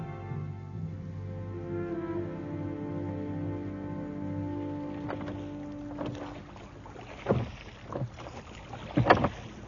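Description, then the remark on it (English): A ship's rowboat moving across water, a low steady drone giving way to three or four splashy oar strokes at an unhurried rhythm. No voices. “have a boat hoisted out for me. I'll go and parley with the villains.”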